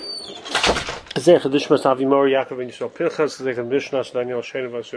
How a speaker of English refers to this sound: Okay, you shut the door? Yeah. Okay.